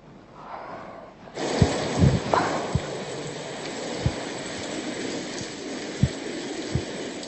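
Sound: storm with heavy rain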